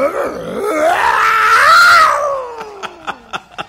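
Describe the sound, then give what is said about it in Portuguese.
A person vocally mimics a revving motorcycle: a loud, wavering engine-like drone rises and slowly falls, then trails into a quick series of four sharp popping bursts like exhaust backfire. “É igual daquela zoada da moto aí. Como é que a moto faz, hein?”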